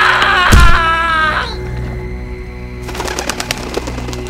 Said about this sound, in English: Pigeons, why are you staring at me like that? Now, pigeons, I know that you're wild, but there's no need to get... What's that? Ah!